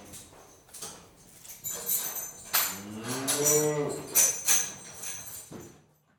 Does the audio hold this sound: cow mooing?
yes